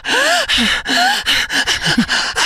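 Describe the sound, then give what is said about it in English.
A voice imitates heavy, rapid breathing during sex, with loud breathy gasps and voiced moans in quick bursts, with no other talk. “But part of why you feel so good was the breathing.”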